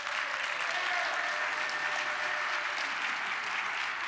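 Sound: audience applause and cheering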